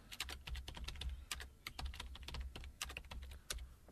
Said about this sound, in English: As you can hear by the typing.